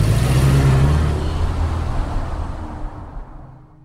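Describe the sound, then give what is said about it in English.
A car engine pulls away out of a traffic jam with a loud, rumbling drone and broad road noise, holding steady for a few seconds before thinning out slightly at the end. “And then, like all traffic, out of nowhere, with no rhyme or reason, it just ended.”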